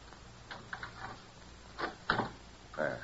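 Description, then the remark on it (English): Metallic clicks and light rattling of a skeleton key working in a door lock, followed by a sharp clack and the creak of the door swinging open, fairly quiet with no one talking. “I'll open the door. But how? I always carry skeleton keys.”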